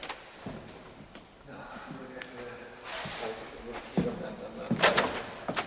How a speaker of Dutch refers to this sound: Een luikje openmaken. Even kijken, dan moet hij ergens een sleutelgat zitten. Ja, hier zit een sleutelgat.